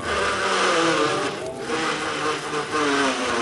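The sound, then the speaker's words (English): A car engine, started by a parking attendant to park the car, runs loudly and steadily, a buzzing mechanical whir with a droning whine that wavers slightly and dips briefly midway, with no voices. “Yeah, well, start it up and put it in the spot there.”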